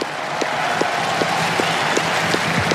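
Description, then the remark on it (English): A large tennis stadium crowd gives a sustained, loud ovation for Juan Carlos Ferrero, coach of Carlos Alcaraz, a dense wash of clapping that fills the whole stretch, with faint regular accents pulsing through it; Carlos Alcaraz is applauding too. “Fabrice Santoro is asking the crowd to applaud Juan Carlos Ferrero, coach of Carlos Alcaraz, who won this title 20 years ago.”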